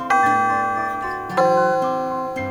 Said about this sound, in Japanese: ほらチャイムだ、教室に戻れ。